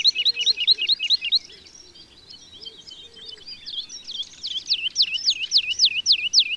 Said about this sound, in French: L'alouette Lulu, même comportement, mais chant beaucoup plus calme et mélodieux.